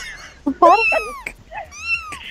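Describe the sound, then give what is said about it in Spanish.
A cat meow sound effect: two meows in quick succession, a loud, drawn-out wail followed by a second, slightly softer falling meow, with a brief murmur in between. “Déjala hablar, por favor. O te pongo el gatito.”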